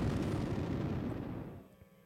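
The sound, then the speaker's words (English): A dense barrage of booming explosions, every third one louder than the others, rumbles continuously for about a second and a half, then quickly fades away into near silence, with no voices present. “Every third explosion is louder than the others.”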